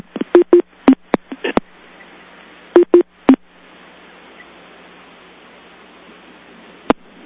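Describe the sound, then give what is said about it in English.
A rapid series of short, sharp telephone keypad tones punches out a number to call back in after hanging up, over a steady hiss of line noise, with one final lone beep near the end and no voices. “I think we should do what was suggested, which is to hang up and call back in again.”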